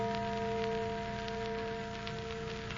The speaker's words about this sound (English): Church bell. Oh, but there aren't any churches around here. Oh, sure there is. That little old church down at the other end of the valley.